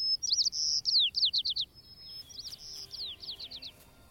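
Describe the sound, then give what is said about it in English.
A sparrow sings its mating call twice: a clear high whistle running into a quick series of buzzy trilled notes. The first phrase is bright, the repeat slightly softer, with no talking. “But now, with the traffic here at its lowest levels since the 1950s, researchers are amazed to hear new notes in the sparrows' mating call.”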